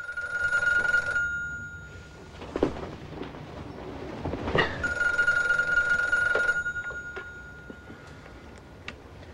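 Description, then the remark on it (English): A telephone in a motel room rings twice, each bright, buzzing burst lasting a second or two with a pause between, fairly loud, while soft rustling and a few thumps fill the gap as someone stirs to answer it. “Ray stirs to answer the phone.”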